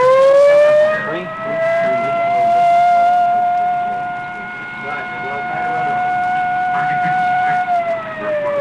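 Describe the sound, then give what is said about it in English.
A loud, sustained standby siren wails steadily for several seconds before a test countdown, rising slightly at the start and dipping at the end, with a faint murmur of background noise beneath it. “That was the standby siren, and again the pace has stepped up.”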